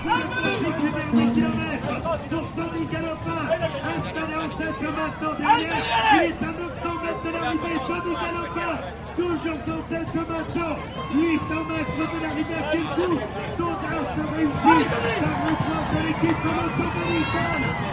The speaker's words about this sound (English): Some sounds there from the finishing straight at the end of stage 11 of the Tour de France, as the crowd awaited the solo escapee Tony Galopin, who won a fantastic victory just ahead of a rampaging bunch.